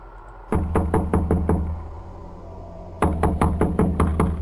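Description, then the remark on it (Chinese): A person knocks on the old door of a house: two quick runs of knocking on the hollow-sounding door, about five raps, a short pause, then about six more, each knock loud and resonant with a boomy wooden thud. “一伸手敲了敲门”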